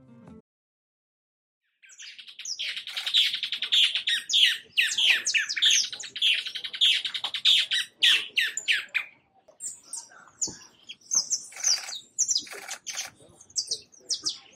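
A casaca-de-couro bird calls loudly, a harsh, raspy run of rapid chattering notes that rises into a dense squawking burst, then breaks into scattered shorter cries.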